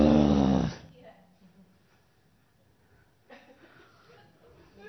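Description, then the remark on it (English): A person lets out a loud, rough growl imitating an animal, lasting under a second, followed by a quiet pause and then faint talking. “That's not your new nature, by the way, to growl.”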